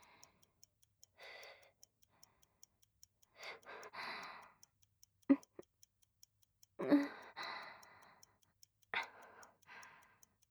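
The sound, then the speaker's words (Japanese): A clock ticks steadily and softly throughout, its even beat running beneath several breathy sighs and sharp intakes of breath, with no talking. “そのような時計のことより、溜まっているお仕事をお願いいたします。”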